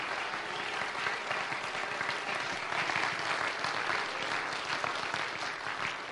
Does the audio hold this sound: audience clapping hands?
yes